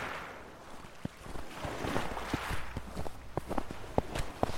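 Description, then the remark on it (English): Footsteps crunching through snow on a hike in Patagonia, Argentina, on a cold morning by a lake, at a slow, uneven pace, each step a short gritty crunch, over a steady hiss of wind. “And hearing the slow crunch of snow beneath my feet, I felt like the only person on earth.”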